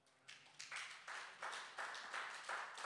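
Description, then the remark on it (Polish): An audience claps in praise of God, the applause starting thin and quickly swelling into a steady, dense patter of many hands, with no one speaking. “Jemu klaszczemy. Jemu klaszczemy.”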